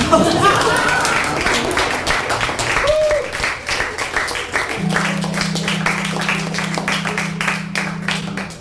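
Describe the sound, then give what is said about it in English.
An audience breaks into steady applause, a dense wash of many hands clapping at once that holds fairly loud throughout, with a sustained low tone humming underneath partway through. “I will allow you to clap.”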